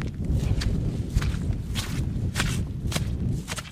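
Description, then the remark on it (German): Heavy footsteps of a young astronomer in knee-high rain boots tramp along at a steady walking pace into empty countryside at Exlo in the Netherlands, about seven crunchy steps over a constant low rumble of strong, icy wind. “Mit schweren Schritten schreitet die junge Astronomin in ihren kniehohen Regenstiefeln ins holländische Niemandsland.”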